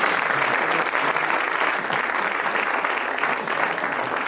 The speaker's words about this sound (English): In both particulars, he gets a round of applause and the quiz book.